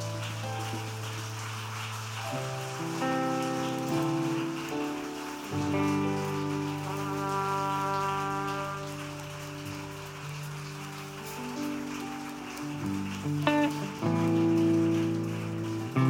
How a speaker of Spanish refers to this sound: Dale nuevamente ese aplauso al Señor Jesús.